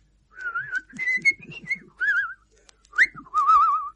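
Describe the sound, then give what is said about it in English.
A man whistles a short melodic tune, warbling notes rising and falling in several phrases separated by brief pauses, with a soft, low rumble underneath. “… whistled.”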